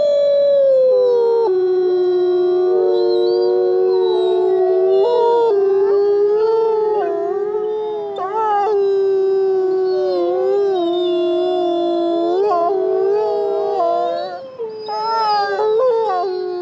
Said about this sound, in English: You know, we like to say wolves howl for more reasons than we'll ever know. It's the iconic vocalization that everybody thinks about with wolves.